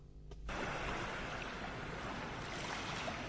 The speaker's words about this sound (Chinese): 直到海浪拍进我的脚，我才醒来。